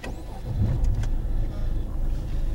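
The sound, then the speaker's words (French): A car engine runs steadily with a low, rumbling hum as the vehicle drives along, with faint brief higher-pitched noises rising above it. The car has about 310,000 km on it. “Cette voiture, je l'ai eue à 250 000 km.”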